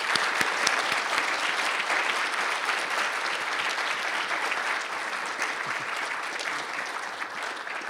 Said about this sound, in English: Could I have another round of applause for Dr. Zide?